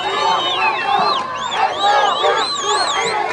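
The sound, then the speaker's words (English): In Khan Yunis, southern Gaza, a large crowd gathers as masked Hamas militants enter a tunnel, filling the air with overlapping shouts and chatter, steady and loud throughout, with wavering high-pitched calls rising above the dense babble of many voices. “In southern Gaza's city of Khan Yunis, crowds gather as masked Hamas militants enter a tunnel.”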